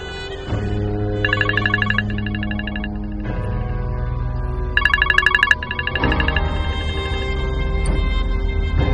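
A mobile phone ringtone plays loudly for several seconds: a sustained electronic melody broken by two bursts of rapid, trilling high-pitched beeps, with no voices.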